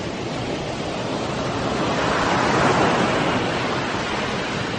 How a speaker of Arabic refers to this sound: وصلنا الحمد لله. انظر ما أكبر البحر. ياهو، ما أروع البحر.